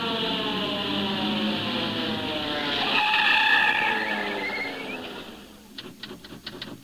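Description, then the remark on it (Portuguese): A long, loud screech of truck tires skidding, a wavering high squeal that swells and then fades, followed by a few sharp clicks at the end. “Olha o caminhão.”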